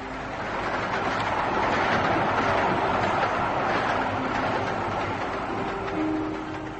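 A train rolls along the rails with a steady, loud rumble and a faint mechanical hum, sustained throughout and easing slightly at the very end, in the radio drama View from the Train. No one speaks.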